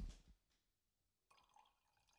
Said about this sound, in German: Kannst du nochmal einschenken, dass wir das hören?